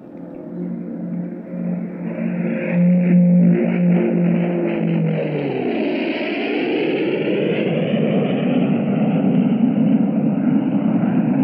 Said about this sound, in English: It is the sound made by the fastest fighter aircraft now in service, the Gloster Meteor. This recording was made in a recent test flight and is the first recording to be made of one of Britain's new jet aircraft.